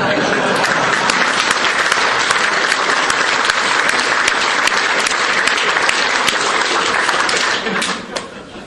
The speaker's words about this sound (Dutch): Dat is mooi, hè? Het is wel een applaus waard. Ja.